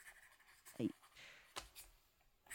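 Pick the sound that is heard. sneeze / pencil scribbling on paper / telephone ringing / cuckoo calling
pencil scribbling on paper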